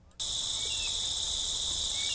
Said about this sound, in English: With birds singing and insects buzzing nearby